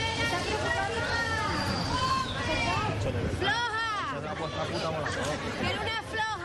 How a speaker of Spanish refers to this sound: Entre silbidos y abucheos, la reina Letizia ha abandonado un acto sobre discapacidad.